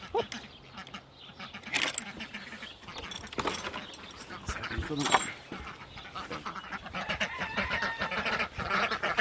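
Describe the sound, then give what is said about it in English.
A group of Buff Orpington ducks, a rare caramel-coloured breed, quacking, with repeated harsh, overlapping calls in irregular bursts that continue steadily throughout, some louder honks standing out from the busy flock chatter. “They're Buff Orpington ducks.”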